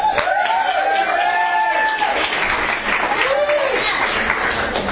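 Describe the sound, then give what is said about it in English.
An audience claps steadily for several seconds to welcome tonight's speaker, a dense, even patter of many hands, while a few rising and falling whoops and cheers ring out above it. “Let's give a hand of round applause”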